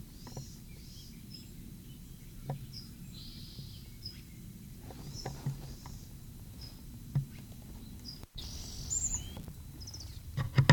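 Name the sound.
bird singing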